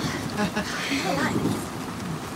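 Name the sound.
rain falling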